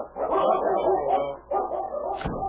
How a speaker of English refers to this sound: That dog of yours is certainly powerful